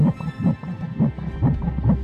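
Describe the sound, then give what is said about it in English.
A fetal heartbeat on an ultrasound monitor during a sonogram of a baby girl. It makes fast, steady whooshing thumps, about two per second, muffled and repeating throughout with no voices. “But seeing a heartbeat and that's inside you, you can almost feel the heartbeat inside.”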